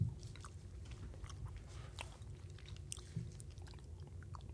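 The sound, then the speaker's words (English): Chewing of a soft, sticky green tea flavored chewy candy with paper stuck to it, with moist smacking and occasional sharper clicks repeating steadily, no voices. “This is a green tea flavored chew.”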